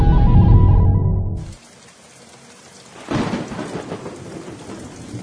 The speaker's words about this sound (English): Uh-oh, it's raining. Gonna have to call the show early today.